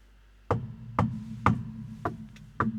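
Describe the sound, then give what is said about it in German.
Five hollow knocks on wood, about half a second apart in a slightly uneven rhythm, each sharp and fairly loud with a low, dull ring, and no voices. “Dann klopfen wir auf Holz.”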